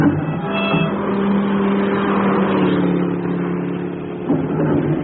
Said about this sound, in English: Did you see that car? What car? That one that just passed with that extraordinary horn.